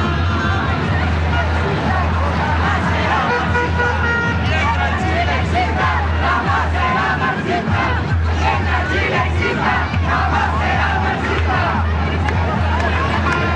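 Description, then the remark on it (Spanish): A large crowd shouts and cheers continuously, a loud dense roar of many voices with rising chant-like bursts and a steady low rumble underneath, with no single voice standing out. The people are waiting for President José Antonio Kast to come out onto a balcony of the Palacio de La Moneda and give his speech. “Entonces, de estos gritos de la gente a la espera del discurso de José Antonio Kast, que como yo les comentaba, tiene el objetivo de recalcarle a la ciudadanía que hoy parte su administración”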